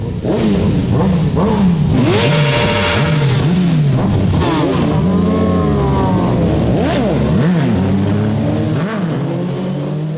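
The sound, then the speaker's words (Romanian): A motorcycle engine revs loudly and repeatedly, its pitch climbing and dropping in quick bursts as the throttle is blipped, continuous with no talking. “Mă transform în avocatul diavolului și spun că o motocicletă este cel mai ieftin vehicul cu care poți să te dai mare în fața prietenilor.”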